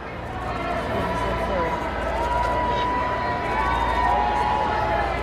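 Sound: crowd cheering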